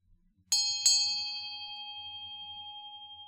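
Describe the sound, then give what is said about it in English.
Two metallic bell strikes in quick succession, the second landing just after the first, then a clear pure tone that rings on and slowly fades with a gentle wavering shimmer. No voices. “As you listen, allow the sound of the bell to draw you into connection with your soul, your eternal self.”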